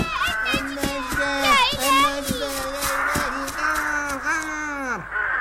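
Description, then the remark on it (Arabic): A crowd of crows caws loudly and continuously, their harsh overlapping calls filling the scene with no pause for several seconds; the crows have been caught in a trap, with a white dove among them. “لماذا أرى حمامة بيضاء فيما بين هذه الغربان؟”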